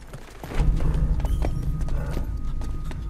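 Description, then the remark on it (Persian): Hooves of cows clop on a hard street, a dense, continuous clatter of many steps over a deep low rumble, fairly loud with no talking. “نه گاوای لعنتی تو خیابونم.”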